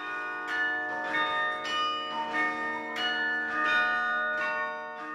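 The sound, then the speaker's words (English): The YMCA's carillon bells ring out in a steady sequence of overlapping tones, each strike blooming and lingering into the next, fairly loud and resonant with no voices present. “For all that time, their carillon was one bell short, with 35 instead of 36 bells.”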